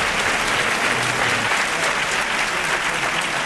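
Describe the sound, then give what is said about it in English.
Steady applause from a large debate audience at the end of a debate, after the audience vote results are announced, a dense wash of many hands clapping at constant loudness throughout, with no voices breaking through. “the applause you hear was actually for both sides in this debate”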